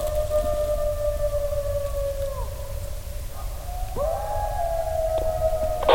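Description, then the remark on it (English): A coyote howls close by in long, steady wavering notes, dropping off midway before a second sustained howl rises and holds, with a low rumble of wind or background noise underneath. “Coyote. That's a coyote.”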